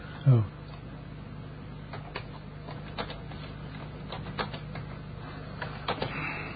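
Irregular clicks of typing on a computer keyboard, a scattered run of light taps over a steady low hum, with a single louder thump near the start.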